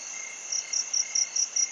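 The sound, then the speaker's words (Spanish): Nighttime ambience near a forest with rocky outcrops, filled with a steady, shrill chorus of crickets, with rhythmic pulsing chirps repeating about every quarter second over a constant high buzz. “Percibimos en primer lugar el sonido que correspondería a un plano general de la noche.”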